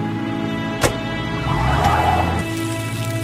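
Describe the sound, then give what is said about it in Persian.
A vehicle engine rumbles low and steady as a car pulls up in front of a woman, who then gets in, its sound swelling briefly before settling, with a sharp click near the start. “با ماشین میاد جلوش”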